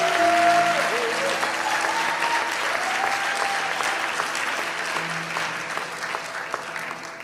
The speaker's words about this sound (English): Why don't we give his entire family a round of applause? Amen.